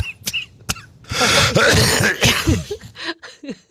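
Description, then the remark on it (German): A person coughs: a couple of short sharp bursts, then a longer, rough fit of coughing with throat-clearing sounds, ending in a few smaller coughs. “Huste ruhig.”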